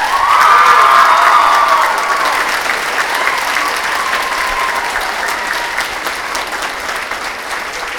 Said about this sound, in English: could you put your hands together and yell and make a lot of noise for Holly Black and Cassandra Clare?